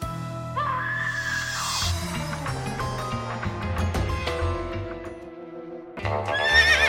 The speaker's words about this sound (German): Wer reitet zu spät durch Nacht und Wind? Denkt sich eine Frau in Brenzbach, als sie um 4.45 Uhr wach wird, Hufengeklapper hört, am Fenster aber nichts zu sehen ist.